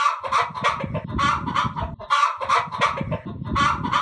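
Several frightened hens on a farm cluck and squawk in an agitated, overlapping flurry as a fox carries off a rooster. The calls are loud, with sharp bursts that keep coming in uneven waves and no pause.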